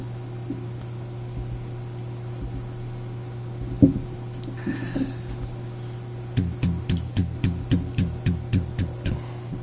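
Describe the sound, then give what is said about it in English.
A steady low hum of an air conditioner running on its low setting continues throughout, with a quick run of regular, evenly spaced ticking thumps in the second half. “No, it's probably the air conditioner in the background. It's on low, but like I need it up here, so.”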